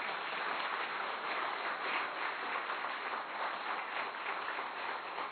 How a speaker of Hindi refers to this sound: ताली तो बजाओ भाई।